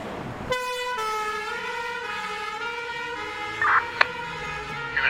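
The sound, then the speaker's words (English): An ambulance siren sounds as one steady, bright electronic tone as the ambulance drives away, its pitch sinking slightly as it holds, fairly loud and continuous, with a few faint clicks and bumps and no talking. “The ambulance has gone.”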